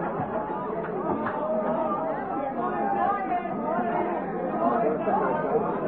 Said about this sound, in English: Hear what they're singing? Dublin, hear that? That's the Dublin crowd trying to outshout the Cork crowd that are singing live